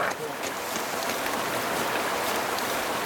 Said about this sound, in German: Wir erreichen einen Bach. Das Wasser ist braun-schwarz vom Lavagestein.